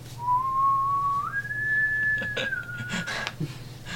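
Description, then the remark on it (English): A person whistles a short tune, a few long, clear notes that step upward and then dip slightly, fairly loud over a faint steady background hum, with no talking. “And I do the old whistle.”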